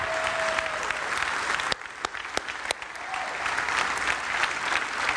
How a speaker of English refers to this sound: Come on, can you give God a big hand clap? Stand to your feet, guys. Come on, stand to your feet. Come on, let's give God a big hand.